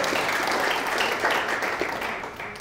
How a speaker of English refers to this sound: Let's have a clap for Janine.